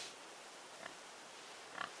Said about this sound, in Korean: 낡은 담배가게 간판을 단 폐가에서 들리는 소리다. 인적도 없는 집에 돼지가 있다니. 궁금한 마음에 살짝 대문 안으로 들어선다. 대문 바로 왼쪽. 나무로 지은 축사 안을 들여다보니 작고 까만 돼지 한 마리가 뛰어다니고 있다.